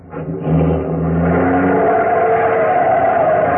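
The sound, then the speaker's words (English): A taxi's engine revs hard and accelerates quickly as it drives off fast, its pitch climbing into a sustained, loud roar, with no voices. “There's a taxi across the street. Oh, here we are. Quick, get in. Driver, start going. I don't care where, only make it fast.”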